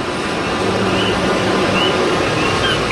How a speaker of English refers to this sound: A few years ago, the intersection of 5th and Lehigh in North Philadelphia was installed with metal palm trees, and now they've been outfitted with tiny speakers. Competing with the din of traffic is the persistent call of the Coqui frog.